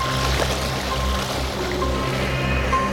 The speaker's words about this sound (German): Nachdem Justus das Passwort eingegeben hatte, schnippte Oinky Hinky mit den Fingern, worauf die gewaltigen Wassermassen durch ein Abflussrohr in die Tiefe gesogen wurden.